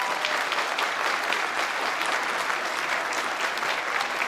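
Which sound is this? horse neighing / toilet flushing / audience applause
audience applause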